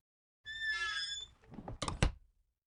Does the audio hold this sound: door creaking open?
yes